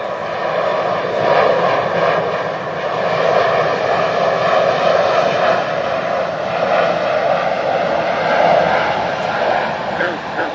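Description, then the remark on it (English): An airplane's engines roar steadily at a new wetland right next to an airport, a loud continuous drone with layered humming tones that swells gently and holds for the whole stretch. “This new wetland is right next to the airport.”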